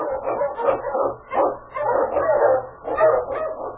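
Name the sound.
eskimo sled dog barking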